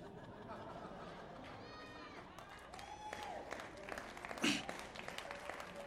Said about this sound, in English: Uh-oh, you're clapping right now